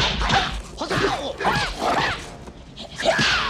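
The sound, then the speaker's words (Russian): Rapid whooshing swings and sharp thwacking hits come in quick succession, a flurry of loud strikes with a staff, feet and hands scattering hyenas, amid scuffling and animal yelps. “Увернувшись от первой гиены, раскидывает остальных ударами посоха ног и рук.”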